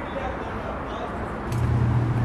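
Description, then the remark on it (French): A steady, dense roar of expressway traffic passing below a monument, a constant rumble that swells louder and deeper near the end, as if a heavy vehicle passes. “Une voie rapide qui passe dessous.”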